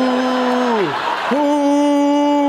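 A crowd at a political event shouts a long, drawn-out "who," chanting "who are you?" rather than booing, the pitch sliding down and breaking off midway, then swelling back to a steady, loud chant over general crowd noise.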